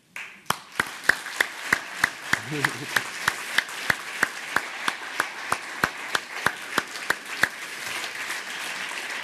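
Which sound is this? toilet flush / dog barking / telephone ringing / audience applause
audience applause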